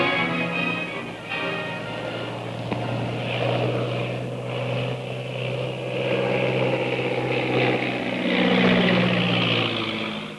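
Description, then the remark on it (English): A big black seaplane's propeller engine drones steadily with a low, buzzing hum, its pitch shifting slightly as the plane circles over a plantation house and comes down to land on the Inky River. No voices, just the continuous engine roar. “Big black seaplane circles over the plantation house and lands like a dead leaf on the surface of the Inky River.”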